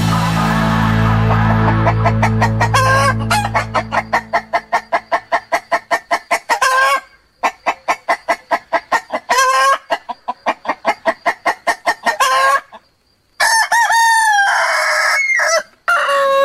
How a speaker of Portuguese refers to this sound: Quando o galo canta, quer dizer que está na hora de despertar e de abrir o programa de Terra em Terra nas margens da tradição.